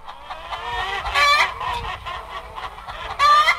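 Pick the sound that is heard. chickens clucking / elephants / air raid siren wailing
chickens clucking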